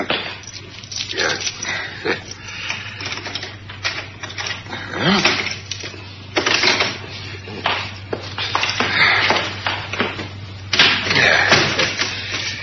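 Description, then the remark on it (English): Rattling and clicking of keys working a lock, followed by a wooden door being pushed open with several knocks and scrapes, moderately loud with no voices. “Allow me to open the door for you. Oh, thanks. Keys in my top pocket.”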